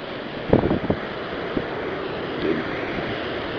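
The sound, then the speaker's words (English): Ocean water washes and splashes over the bottom of a set of stone stairs leading down the cliffs to the water at La Jolla at high tide, with a few sharp slaps of surf early on over a steady windy, rushing wash of waves. “Stairs, the tide's a little high right now, so the stairs are pretty much being washed over by the ocean at the bottom, so I'll just go down to the point where I won't get wet.”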